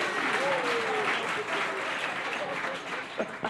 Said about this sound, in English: We cut you off with a badly timed applause there.